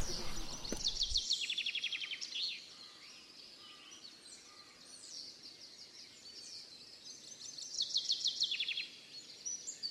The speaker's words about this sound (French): Peu à peu, le concert des oiseaux remplaçait le silence de la nature.